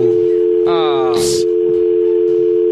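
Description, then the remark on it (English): A steady, unbroken telephone dial tone after a caller hangs up hums loudly through the whole stretch, with a brief burst of a voice and a short noisy rustle cutting in over it near the middle. “You can't hang up on me on Friday.”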